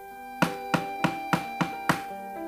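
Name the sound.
knocking on a door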